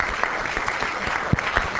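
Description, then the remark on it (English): An audience clapping steadily after a talk, a dense patter of overlapping hand claps with a few sharper individual claps standing out, sustained for a couple of seconds with no voices. “Claps.”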